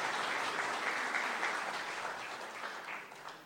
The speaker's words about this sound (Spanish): Nuevamente, despedimos con un aplauso a estos dos grandes personajes